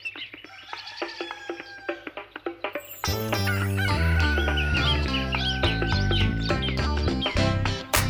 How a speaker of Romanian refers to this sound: Cocoșelul meu isteț, cocoțat pe un coteț, face mare tărăboi, te răsună până la noi. Cucurigu!